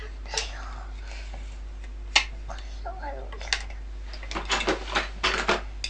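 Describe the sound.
Light clinks and knocks of plates being handled and set down, a few scattered taps, then a quick cluster of clatters near the end, with soft murmuring voices and a steady low hum.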